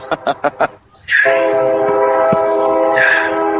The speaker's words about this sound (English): That's a loud train. That's me. Of course, it's Chicago. How can you avoid the trains?